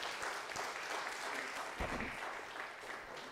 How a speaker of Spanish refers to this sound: Es glorioso. Denle un fuerte aplauso al Señor, iglesia.